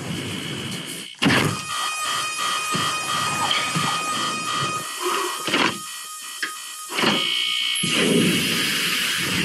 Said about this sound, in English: That's a lot of alarm sounds. Yeah. Oh, Lordy. And they all kind of sound the same.